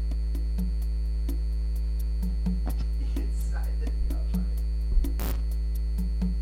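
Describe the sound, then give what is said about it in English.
A steady, loud electrical hum with strong low harmonics and a faint rhythmic pulsing buzz from inside a neon light outside a convenience store, with a brief sharp crackle near the end. “Inside the neon light.”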